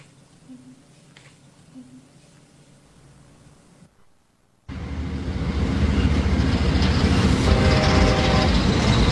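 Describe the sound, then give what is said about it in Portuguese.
A train sound effect in the jingle of the Programa Igor Loyola show: after a quiet, humming stretch and a brief silence, a loud train rumble suddenly bursts in and roars steadily, with a faint horn-like tone rising briefly near the end. “Programa Igor Loyola, o trem, trem, trem, trem, o trem da comunicação, o trem da comunicação.”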